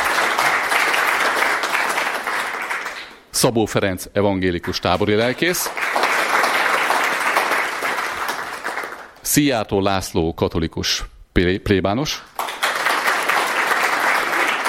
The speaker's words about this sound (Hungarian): szeretném nagy szeretettel köszönteni, és egy tapsot szeretnék kérni neki.